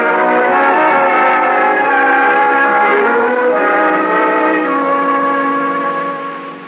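A loud train horn blares from a departing train in one long, steady chord for several seconds, its pitch shifting slightly midway before it starts to fade near the end. No one speaks.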